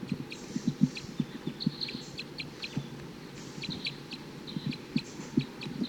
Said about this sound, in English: Wild bird, wild male. Responding to 258. So recording, that was a wild bird chittering on his way up to a nearby eucalyptus.